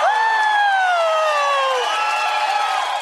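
An applause and cheering sound effect, played to mark a new membership: a crowd cheers loudly over a steady wash of noise, with high whooping voices sliding downward in pitch, sustained for about three seconds without a break.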